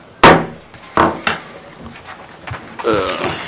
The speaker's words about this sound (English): Well, I've been moving chairs and I've lost everything.